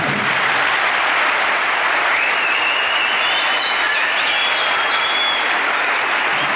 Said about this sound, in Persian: ما رو با کپ زدن خودشون مورد محبت قرار میدن، من خودم هم یه دستی میزنم.